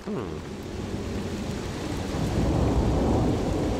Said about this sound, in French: Là, c'est l'orage.